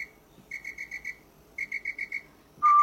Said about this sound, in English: And what would a song from the 012 be without a whistle, bro?